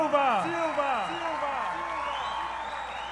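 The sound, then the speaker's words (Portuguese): A large crowd of people from Juazeiro, Petrolina and the region applauds and cheers for President Luiz Inácio Lula da Silva, with overlapping shouting voices rising and falling over a steady, dense wash of clapping that stays loud for the whole stretch. “quero pedir ao povo de Juazeiro, de Petrolina, da região que está aqui, uma salva de palmas calorosa ao melhor e maior presidente da história desse país, Luiz Inácio Lula da Silva!”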